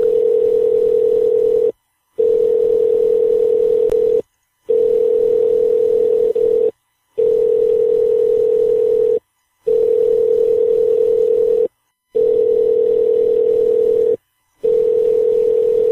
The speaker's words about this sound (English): Come on, pick up the phone, damn it. Nothing, huh?